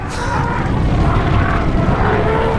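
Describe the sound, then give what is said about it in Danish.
A herd of elephants thunders past, a dense, steady low rumble of heavy pounding footfalls that holds at a loud level for a few seconds with no voices. “smid lige en bunke elefanter ind, der løber forbi os nu.”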